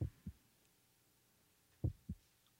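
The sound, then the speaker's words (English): Two slow heartbeats, each a deep paired thump (lub-dub), separated by a long pause; low and muffled, with nothing else but faint background hiss. “And it's just a heartbeat.”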